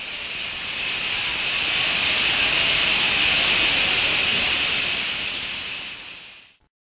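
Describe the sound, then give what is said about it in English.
A loud, continuous roar of steam from a ship's boilers venting at all exhausts after every safety valve lifted, a broad hissing rush with steady high whistling tones, building slightly then cutting off abruptly. No voices. “And as a result, the steam roared off at all exhausts. The row was absolutely deafening.”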